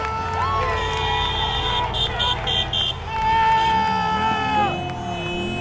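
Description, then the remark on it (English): Several car horns blare in the streets as people celebrate their sports team's win, long sustained honks overlapping with a run of short rhythmic toots, loud amid a noisy crowd's general cheering and shouting. “Oh, the honking started immediately.”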